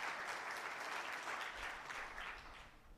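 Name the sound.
audience hand clapping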